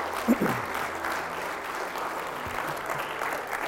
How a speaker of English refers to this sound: Let's just clap to the Lord this morning and thank him for his goodness.